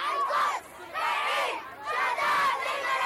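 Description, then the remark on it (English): A protest crowd in Beirut, rallying in support of Gaza and denouncing the massacres in Palestine and Lebanon, shouts in unison in rhythmic bursts, loud massed voices rising and falling in chant-like waves with short dips between them. “Shouts from protests in support of Gaza and denouncing the massacres in Palestine and Lebanon have been echoing across the capital, Beirut.”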